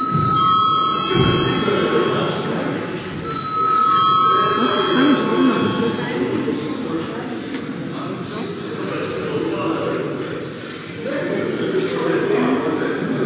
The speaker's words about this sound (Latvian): Lūdzu zvanu.